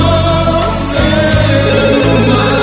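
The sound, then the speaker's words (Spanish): A telephone rings loudly, a steady electronic trill that shifts pitch a few times and rings continuously over some background music, with no one talking. “¿Qué pasa con el teléfono hoy?”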